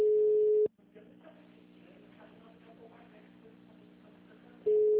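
A loud, steady mid-pitched telephone busy signal sounds briefly at the start and again at the end of an unanswered call to a bank, with a quieter, muffled voice-like stretch in between.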